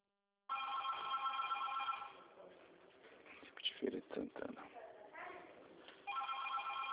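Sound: telephone ringing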